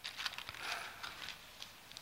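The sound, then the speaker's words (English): Soft, papery rustling of Bible pages being turned by listeners looking up Isaiah 45, a continuous crinkly flutter with brief louder flicks scattered through it, fairly quiet and with no voices. “"Thus saith the Lord," I'm not giving you time to get there, I can still hear your pages turning, but I'm in a hurry, so I'm going on, okay?”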